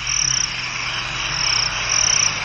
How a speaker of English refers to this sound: You can't recognise any other creatures other than the chirruping of crickets.